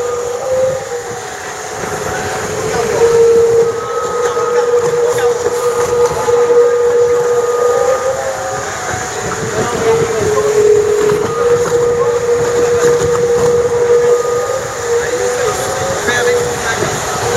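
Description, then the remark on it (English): A foiling sailboat races across mirror-flat water at about 16.5 knots, its leeward hull lifted clear of the water, a loud, continuous rush of wind and spray carrying a steady, whining hum that holds throughout. “Leeward hull now flying clear of the water.”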